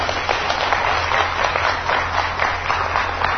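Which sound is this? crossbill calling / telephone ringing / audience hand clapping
audience hand clapping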